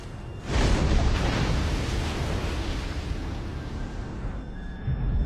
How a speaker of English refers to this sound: Waves lap against the bow of the ship as it moves smoothly forward.